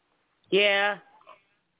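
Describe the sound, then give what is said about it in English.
A single loud meow from Buddy, a cat sitting on a table: one drawn-out, steady-pitched cry lasting about half a second, with a faint soft trailing sound afterward and silence around it. “Did you just meow?”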